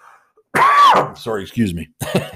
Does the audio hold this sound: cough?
yes